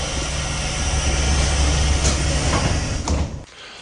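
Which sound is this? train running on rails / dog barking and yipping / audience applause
train running on rails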